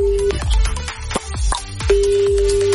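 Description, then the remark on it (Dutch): A phone's ringing tone sounds twice as a steady, mid-pitched electronic hum, with punchy beats and background music thumping underneath and in the gap between the rings, as an outgoing call tries to reach someone. “Er komen veel telefoonnummers binnen via de ADP. Even iemand proberen te contacten.”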